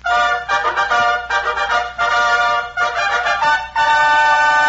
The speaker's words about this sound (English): And here it is. The lion roars. Trumpets blare.